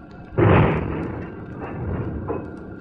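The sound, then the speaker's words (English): A pedal-steered vehicle glances off a wall with a sudden loud, crunching impact that rumbles away, followed by two weaker scraping thuds. No voices are heard. “I thought we were going right through that wall. Oh, it was only a glancing blow, but another split second.”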